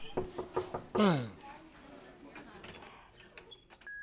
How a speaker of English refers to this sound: Knock on the door